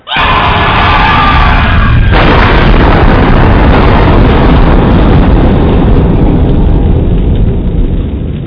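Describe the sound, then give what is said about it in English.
A huge explosion with a fireball erupts into a loud, sustained rumbling roar that stays heavy for several seconds before easing slightly at the end. “They're doing fireworks outside in the huge fireball.”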